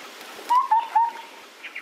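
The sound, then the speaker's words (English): A small mountaintop songbird of the Sky Islands, a species living above 1,300 meters altitude, sings three short, clear whistled notes in quick succession, then a fainter higher note, heard alone against a quiet, faintly hissy outdoor background. “the further apart these mountaintop islands are, the more the songs vary.”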